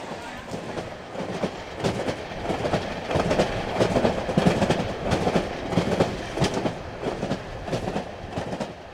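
The People's Climate Train, a passenger train on its way to New York, rolls steadily along the rails, its low rumble broken by a continuous rhythmic clatter of wheels over track joints, with muffled voices faintly audible inside the carriage.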